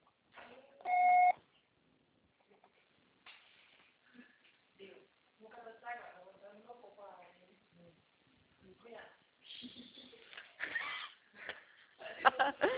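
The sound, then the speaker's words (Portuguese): A single loud, steady electronic beep like an answering machine tone sounds near the start, lasting about half a second, followed by people talking. “O seu call será tarifado após o sinal.”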